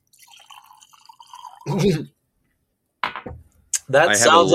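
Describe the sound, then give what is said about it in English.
Whiskey trickles and gurgles softly from a giant bottle for a second or two, a quiet pour, before people start talking. “I'm just going to pour it right.”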